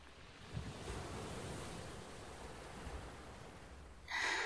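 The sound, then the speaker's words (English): Steady surf washes and rumbles continuously, a broad hiss of breaking waves with some wind buffeting, swelling louder near the end. No voices. “We can listen to the sounds of the sea in the background.”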